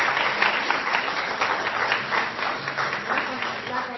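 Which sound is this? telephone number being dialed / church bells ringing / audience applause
audience applause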